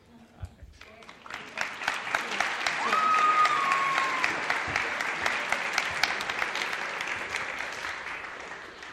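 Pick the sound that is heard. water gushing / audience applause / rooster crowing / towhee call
audience applause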